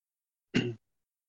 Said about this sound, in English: Sorry, I still have a cough, and I know that our dear listeners don't wish to hear that.